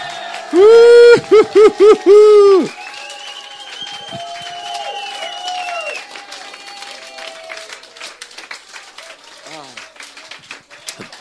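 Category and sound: crowd, audience applauding and cheering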